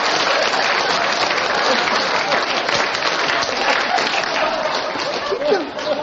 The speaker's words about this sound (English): I would never talk through applause as a professional.